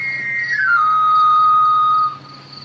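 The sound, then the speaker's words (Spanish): A knife sharpener's whistle in the street at night: one loud, clear whistled tone that slides downward, then holds steady for about two seconds before cutting off, with no voices. “Es el afilador.”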